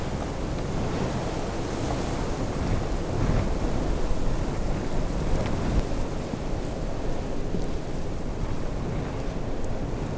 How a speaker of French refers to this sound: Rafale de vent. Neige et flocons qui virevoltent dans tous les sens.